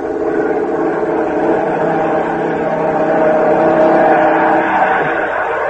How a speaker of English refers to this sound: Listen. A German plane. Quick! Out of the car. Under the trees.